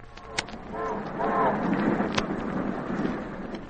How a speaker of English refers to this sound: Oh, I know what that was. It was a railroad train. That's right. It was a railroad train and the railroad whistle.